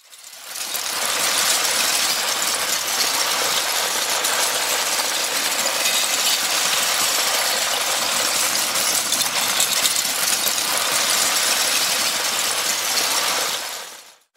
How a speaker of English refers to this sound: others like … and … a little more consistent, soothing, and abstract as you hear thousands of LEGO bricks cascading down together. Here's a quick listen to …